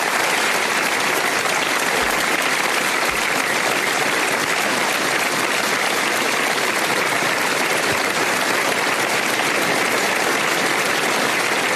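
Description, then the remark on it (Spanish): Sustained farewell applause from a large audience in Olivenza, Extremadura, Spain, a dense, steady wash of clapping that stays loud and even throughout with no voices standing out. “Pues así, con los aplausos que le han despedido en Olivenza, ponemos hoy punto y final a este programa”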